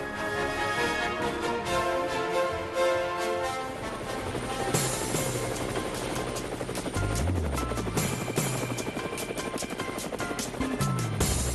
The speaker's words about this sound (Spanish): Bueno, amigos de Cuba, llegó el helicóptero, ahí están las aspas y por supuesto Alejandro se suma a montarse en él y a ver a dónde nos lleva nuestra colega y amiga Exilda Arjona.